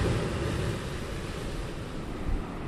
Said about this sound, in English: From my current vantage point outside Reedsport, Oregon, it seems clean, green, and promising. Powerful waves launch geysers of spray over the jetty up ahead.